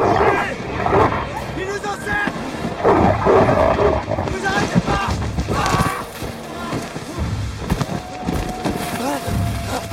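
A pack of wolves snarls and growls loudly and continuously, a chaotic chorus of menacing animal noise mixed with frantic human shouting throughout.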